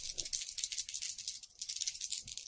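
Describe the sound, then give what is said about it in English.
Three dice rattle continuously for a couple of seconds as they are rolled to cast a spell in a tabletop game, a dense, bright clattering shake with rapid irregular clicks, steady and moderately loud with no voices. “And then I'm going to cast the Dread Curse of Azathoth, which is 3 dice to cast.”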